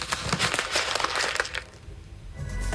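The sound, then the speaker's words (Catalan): Paper is crumpled in a burst of dense, crackly rustling for about a second and a half, then it tapers off into quieter crinkles and near silence. “En aquest cas, la resposta clara seria un paper arrogança.”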